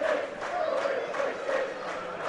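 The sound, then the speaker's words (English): A football crowd of 2,313 at Broadhurst Park, North Manchester, at an FC United game against Nuneaton on a very cold evening, chants together in a steady, droning unison, voices swelling in rhythmic waves. The massed sound is loud and continuous, with cheering mixed into the chant. “Good crowd here today, 2,313.”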